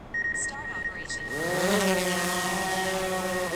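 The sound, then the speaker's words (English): A small drone's motors spin up, their buzzing whine rising in pitch before settling into a steady, layered hum, with a thin high tone running underneath, as the drone flies back and forth across a glacial basin taking aerial photos. “The drone flies back and forth across the basin over the course of a few hours.”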